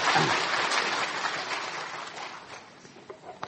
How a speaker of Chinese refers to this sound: 我们为诗班感恩，我们诗班是越来越好。感谢主，我实在是想跟他一起鼓掌，好吗？我们为他们感恩。